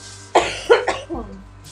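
human body sound, coughing

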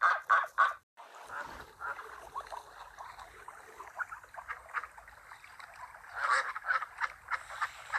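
bird, ducks quacking

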